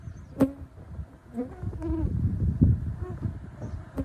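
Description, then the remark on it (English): Clouds of mosquitoes swarm around research sites on the tundra, buzzing in a steady, whining drone, with several high-pitched tones rising and falling as they circle. “Clouds of mosquitoes swarm around the research sites.”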